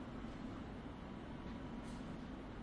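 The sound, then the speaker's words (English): A steady, continuous low rumble of an all-stations Metropolitan Line underground train to Watford at the platform of Finchley Road station, with a broad even hum and faint hiss, no voices and no distinct clanks. “This is an all-stations Metropolitan Line train to Watford.”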